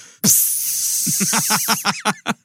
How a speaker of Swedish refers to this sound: Det fräste till som om man kastar en falukorv i en stekpanna.